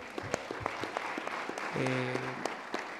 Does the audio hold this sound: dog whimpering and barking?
no